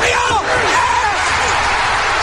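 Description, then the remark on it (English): A large crowd roars and cheers continuously at a steady, loud level, with individual voices yelling above the dense wash of noise. “Listen to that crowd.”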